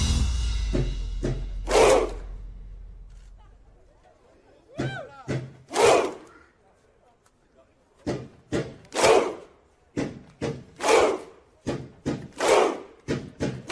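A large crowd of football fans performs a ritual clap and chant, the one that spread worldwide after Iceland's win at Euro 2016. Each loud booming clap is joined by a deep shouted chant, slow and widely spaced at first, then coming faster in a steady beat.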